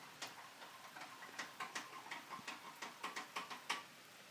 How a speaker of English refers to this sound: Yeah, they didn't say it was going to rain, but they said it was going to be thundery rain. And there's nothing thundery about this rain. It's just rain. It does smell nice, though